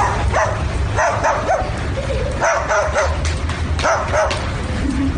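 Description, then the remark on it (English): A parrot, which learned to bark because of a dog, mimics a dog's barking, letting out a rapid series of loud yips and woofs in an uneven rhythm, with no one talking over it. “It's a parrot. Taught stuff how to bark because of the dog.”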